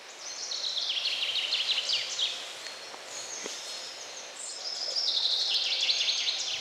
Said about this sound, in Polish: I przy tej okoliczności śpiewającej zięby Jan Brzechwa ze swoimi ptasimi plotkami.